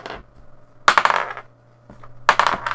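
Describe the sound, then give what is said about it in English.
Two bursts of sharp, rattling clicks as dice tumble and clatter across a hard table, each lasting about half a second with a brief pause between, fairly loud. “We did roll a one today.”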